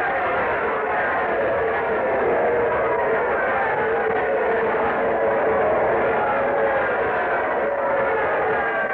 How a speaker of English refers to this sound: There's Isaac Cray coming down the aisle. Oh, the crowd's giving him quite an ovation. Listen.